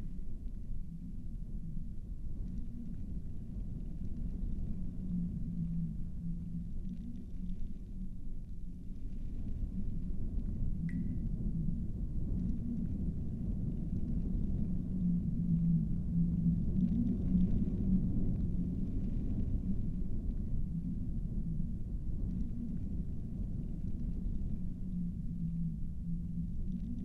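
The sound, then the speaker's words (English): A storm rumbles outside a snow shelter in a deep, continuous roar that holds steady for the whole stretch, swelling slightly at times, with no voices present. “Safe and secure from the storm outside.”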